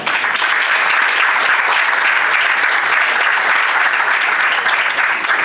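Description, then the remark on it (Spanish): Steady, loud applause from an audience for an undergraduate student's proposal fills the whole stretch, a dense crackle of many hands clapping at once without pause or other voices. “Aplauso a Jennifer por la propuesta y la iniciativa que tiene ella como estudiante de pregrado en afianzar su trabajo profesional hacia las comunidades indígenas.”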